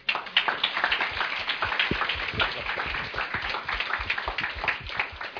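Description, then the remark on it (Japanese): An audience applauds a student's testimony talk, a dense crackle of many hands clapping at a fairly even level for about five seconds, with no voices over it. “もう一度拍手お願いします。”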